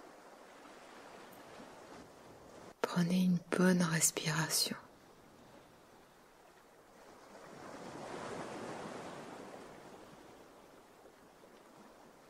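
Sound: water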